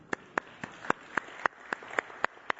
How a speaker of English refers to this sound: And then it was awesome today again. I'm going to give them a clap.